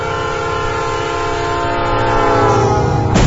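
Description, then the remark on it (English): A train rumbles past while its horn sounds a long, steady, multi-tone blast. The noise grows louder toward the end and finishes with a sharp burst. “I'm just catching 1136 now to New Street.”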